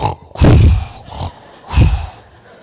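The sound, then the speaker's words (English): A voice imitates a child snoring after slamming his head back on his pillow: two long, rumbling inhales with a raspy, growling texture, separated by a quieter breathy exhale, with no words spoken. “So if you start snoring, I'll understand why.”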